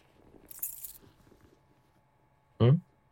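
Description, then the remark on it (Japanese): A brief, bright metallic jingle of house keys shaken for about half a second, then quiet rustling and a short loud burst near the end. “あんたの家の鍵持ってるし。”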